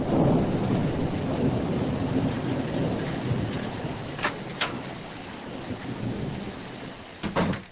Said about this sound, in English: It's raining very hard. I know. It has been raining all morning.